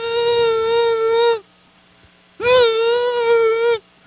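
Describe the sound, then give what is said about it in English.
A voice imitates a mosquito's whine with two long, steady, high-pitched buzzing tones, each lasting over a second, separated by a short silence. The tone wavers slightly and stays loud throughout. “How many of you have ever tore down a tent out camping trying to kill a mosquito? Anybody here ever camp? And all of a sudden you hear this.”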